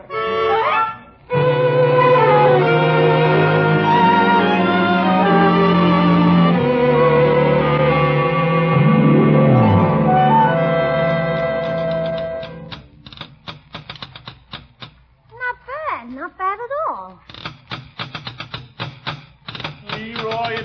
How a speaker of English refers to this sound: What were you banging on just now, young man? I was drumming. What were you banging on? On the table here. It sounded pretty good, huh? On the table? Look, you see those dents?